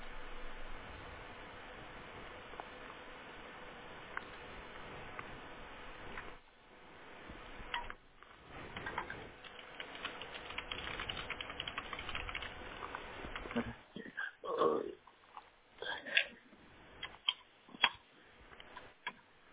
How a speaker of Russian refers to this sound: Вот оба коннектора это заново воткнул. Вот сейчас сигнал появился. Возможно, значит, просто где-то не до конца был защелкнут.